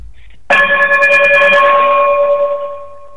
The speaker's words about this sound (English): Can you chime us out, please?